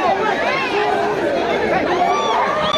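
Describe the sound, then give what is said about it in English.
A dense crowd of mostly Haitian migrants clamors together while trying to rush an asylum office building in Mexico, many overlapping voices shouting and calling at once in a steady, agitated roar with no single speaker standing out. “At an asylum office in Mexico, a crowd of mostly Haitian migrants trying to rush the building, some having waited weeks for an appointment.”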